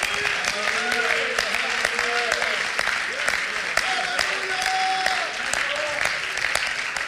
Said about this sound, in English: Would you clap your hands this morning?